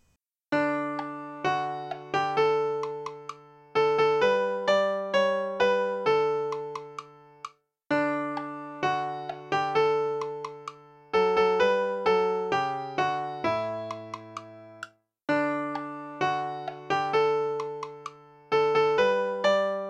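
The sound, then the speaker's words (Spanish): Instrumental music with no singing, the music-only part of 'No tardes, Tom', number 467: struck, decaying notes and chords in a steady, moderate rhythm, played in phrases separated by brief pauses, at an even, moderate loudness. “Ahora escuchamos solo la música.”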